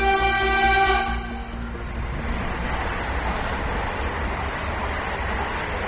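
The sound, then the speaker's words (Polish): A passing train blares its horn loudly for about a second, a rich sustained chord, as a warning to anyone who might be nearby, such as railway workers, then cuts off and gives way to the steady, noisy rumble of the train rolling past. “Pociąg przejeżdżając daje sygnały, baczność dla ewentualnych ludzi, którzy mogliby się, nie powinni, ale mogliby się znaleźć gdzieś w okolicy.”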